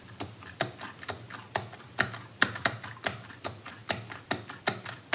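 Clatter of someone typing on an external keyboard connected to an iPhone, a steady stream of crisp individual keystrokes at an uneven rhythm, with no voices.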